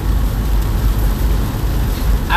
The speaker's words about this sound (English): The rain's pretty loud.